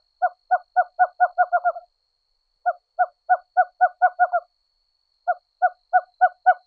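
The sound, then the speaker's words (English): A western screech owl, a small owl, gives three series of hollow hoots, each speeding up like a bouncing ball, clear against a quiet background with no talking. “Its look-alike eastern relative makes a whinnying cry, far different from the western screech owl's own call, which sounds like a bouncing ball.”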